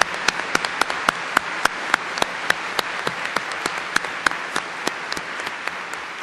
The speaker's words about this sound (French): Les intervenants ont été magnifiques puisqu'on en est aux applaudissements. Je propose qu'on les applaudisse parce qu'ils ont tous globalement été remarquables.